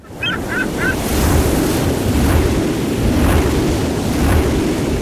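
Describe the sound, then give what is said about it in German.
Steady roar of strong wind over the open Baltic Sea at an offshore wind farm turning wind into electricity, with surf and rushing water, continuous and loud throughout, with a few faint high chirps near the start. “So hört es sich an, wenn die NBW Wind in Energie verwandelt.”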